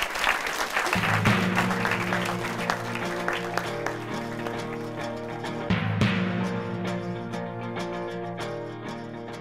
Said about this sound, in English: A little round of applause for our actors.